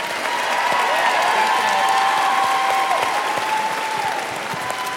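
A crowd breaks into sustained applause, many hands clapping in a dense, steady roar that holds at full volume for several seconds, with a faint whistle or cheer riding over it.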